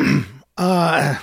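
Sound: sneeze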